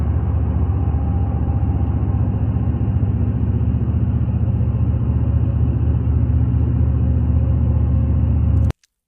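Data center noise at 1 a.m., heard from half a mile away: a constant, heavy low-pitched roar and hum that holds at one loud level without change, with no voices, before cutting off abruptly at the end.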